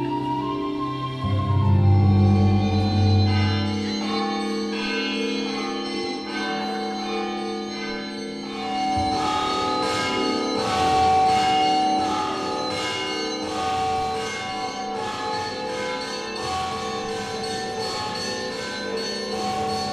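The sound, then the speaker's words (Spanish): Church bells rung by bell-ringers ring out in a sustained, resonant peal, with a deep humming toll at first and then a busier run of rhythmic strikes and ringing overtones. No voices are heard. “También hay campaneras.”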